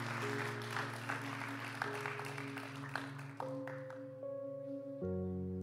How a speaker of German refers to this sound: Ja, come on, lass uns dem Mann Applaus geben.